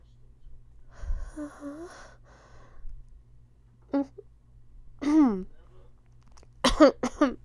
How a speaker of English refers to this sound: No, I just got a cough. Yeah. It's no big deal.